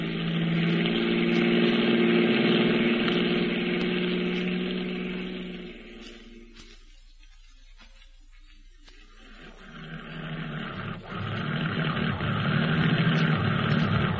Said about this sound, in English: This corduroy road ain't very good on my tires, mister.